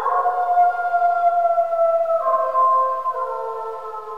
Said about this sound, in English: We've got a solitary wolf howling now. This is a timber wolf howling.